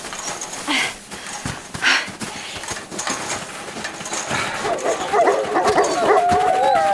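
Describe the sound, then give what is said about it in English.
Wolves bark in a few sharp, scattered bursts, then break into a chorus of long, wavering howls that rise and fall. The sounds are loud, with no talking. “And you thought you didn't talk wolf.”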